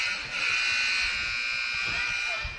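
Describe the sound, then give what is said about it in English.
A malfunctioning gymnasium scoreboard buzzer drones loudly and continuously without a break during a varsity girls game in Loachapoka, a sustained electric tone, with faint low crowd noise and talk underneath. “Seems like we got a having a buzzer issue.”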